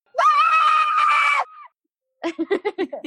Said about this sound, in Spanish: Va el grito. ¿Están listos? Dale, dale. Venga, dale. Pero tápense los oídos. No, hay que gritar.